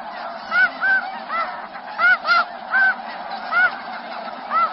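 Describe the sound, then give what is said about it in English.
Snow geese calling in a busy flock, many short, high-pitched honks overlapping in quick bursts over a steady background chorus of calls. “I think we have a little bit of snow goose sound.”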